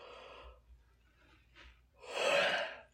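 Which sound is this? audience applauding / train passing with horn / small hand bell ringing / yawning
yawning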